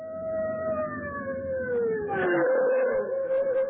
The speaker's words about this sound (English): A fire engine. I wonder why it's stopping here. I tried to tell you, your house is on fire.